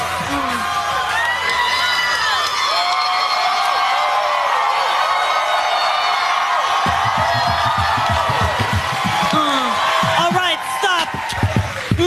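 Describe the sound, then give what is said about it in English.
A studio audience on James Corden's late night show cheers, whoops and claps in a loud, steady roar that lasts throughout, with many voices shouting over one another and no pause in the noise. “Enough of this clapping.”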